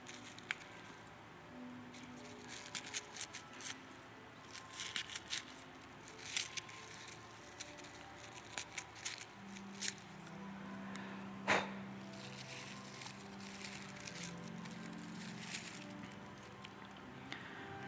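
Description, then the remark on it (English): Soft paper rustling and crinkling with scattered sharp snips and crackles, irregular and fairly quiet over a low background hum, as a thin paper napkin is folded and cut into a paper snowflake. “It's just a paper snowflake made out of a napkin, so I can imagine you're not impressed either.”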